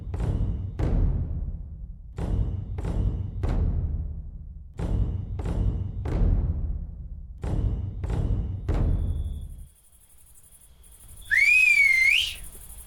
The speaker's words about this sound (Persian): صدای سوتو شنیدی؟ آره، به نظرم شیگوری علامت داد.